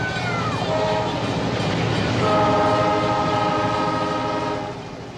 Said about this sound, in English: No, probably just his train set. It sounds like someone yelling.